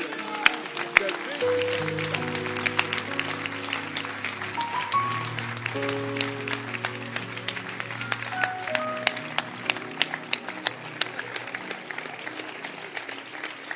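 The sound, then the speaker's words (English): A church audience, standing, claps their hands in a steady, dense patter that continues throughout, while sustained organ-like chords play underneath. “Stand to your feet and clap your hands and you can sit down.”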